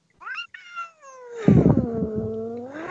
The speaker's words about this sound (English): Wait, is this an episode of Star Trek with the cat fighting?